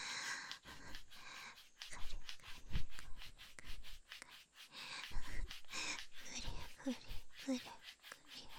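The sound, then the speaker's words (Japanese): Close, crisp scratching of fingernails on skin, repeated in quick rhythmic strokes with brief pauses between bursts; no one speaks. “ここをカリカリされるのが気持ちいいだね。”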